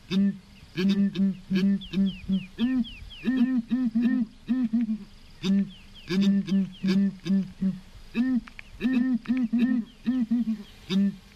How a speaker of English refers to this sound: heard a ground hornbill? I hadn't until I met … at Cockpit Studio in Harare. It's a kind of bird